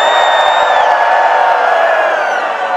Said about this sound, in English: So raise your hands and on the count of three, scream. One, two, three, scream.